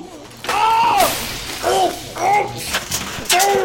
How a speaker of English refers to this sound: You're breaking everything! You smashed the toaster! Oh no, the DVD player! Ruined! No! No! Not the coffee machine! No!